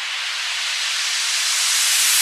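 A white noise riser used in music production to transition from one section of a track to another: a steady, bright hiss whose energy gradually climbs and brightens toward the top over about two seconds, swelling slightly louder, with no voices.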